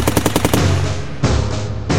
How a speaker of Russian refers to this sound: Вторые немцы шли, тесно прижавшись друг к другу, шеренгой от тротуара до тротуара. Они разряжали автоматы в малейший звук, в движение, в окна, в двери, в бок, вверх, в стороны.